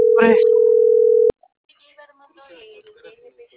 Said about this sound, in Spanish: llamada está siendo transferida y se cobrará al terminar los tonos.